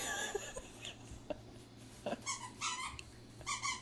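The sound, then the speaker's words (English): A dog chomps on a squeaky toy, producing several sharp, high-pitched squeaks in short uneven bursts between soft chewing clicks and snuffles, with no one talking. “No, he's got a squeaker toy.”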